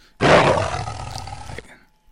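A single loud big-cat roar bursts in suddenly, holding a rough, rumbling growl for over a second before cutting off, with no talking.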